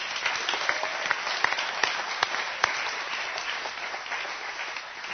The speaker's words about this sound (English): If you would, please give a warm round of applause for our men from the East Bay Men's Program.